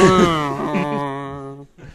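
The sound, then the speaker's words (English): A brassy trombone plays the classic sad "wah-wah" fail riff, a few sliding notes sinking in pitch and ending on a long wobbling tone, loud and close with no voices. “Where's that trombone?”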